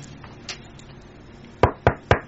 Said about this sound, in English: I won't answer the door. So you can knock till your knuckles bleed.